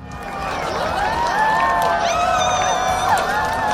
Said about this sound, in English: Sounds kind of like the sound of a crowd viewing the total solar eclipse. But this was a crowd in Singapore where the moon covered 94% of the sun.